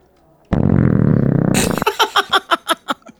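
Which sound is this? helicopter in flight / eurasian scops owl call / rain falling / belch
belch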